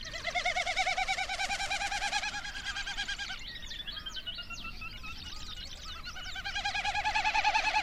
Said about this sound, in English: And a Wilson snipe.